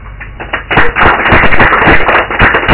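An audience claps: a few scattered claps at first, then a quick swell into loud, dense applause of many overlapping hand claps that carries on steadily to the end.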